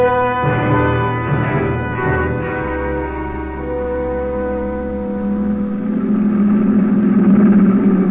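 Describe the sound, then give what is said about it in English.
The first truck of a Nazi military convoy roars around a curve and passes, its heavy engine a deep, steady rumble with whining gear tones, swelling louder toward the end. No voices. “The first truck of the Nazi convoy roared around the curve and passed.”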